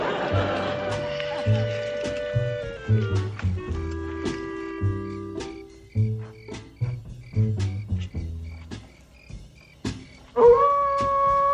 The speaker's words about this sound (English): What was that? Just a coyote.